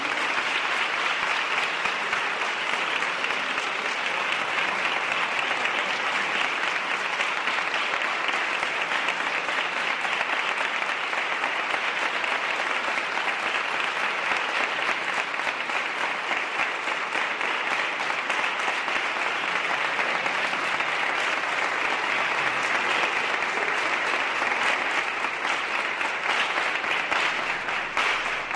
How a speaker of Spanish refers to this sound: Esa ovación corroboraba lo que había expuesto.